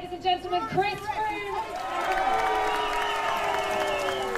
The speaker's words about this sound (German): Chris Froome, vierfacher Toursieger, wird ausgebuht in der Heimat. Ihm galt bei der Tour de Yorkshire auch Beifall von seinen Fans.